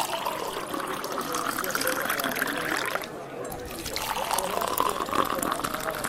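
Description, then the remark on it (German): Cold water pours steadily into a cup for about three seconds, stops briefly, then hot water follows in a second pour, each a continuous splashing trickle heard on its own. “Zuerst kalt, dann heiß.”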